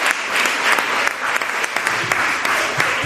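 An audience applauds steadily, a dense crackle of many hands clapping at once, loud and sustained without pause for the whole stretch.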